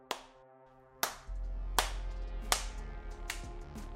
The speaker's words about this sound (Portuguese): Você ouve palmas.